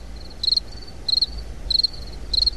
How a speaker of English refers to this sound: And crickets.